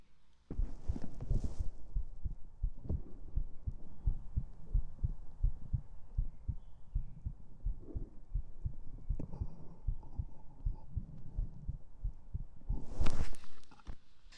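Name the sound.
heartbeat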